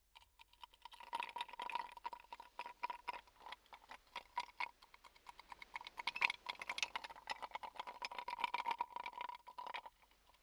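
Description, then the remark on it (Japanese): Ice cubes for a carbonated soft drink dropped into a mug, a long run of rapid, irregular hard clinks and clicks with bright, sharp edges, steady for about ten seconds with no voices. “これは今マグカップに入れてます。”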